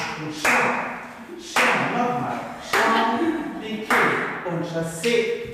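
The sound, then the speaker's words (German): Muffled classical ballet training heard through a door in a red brick building by the Sihl river: piano chords struck in a steady, even rhythm, roughly once a second, with soft taps and thuds mixed in. “Hinter einer Türe tönt es nach klassischem Balletttraining.”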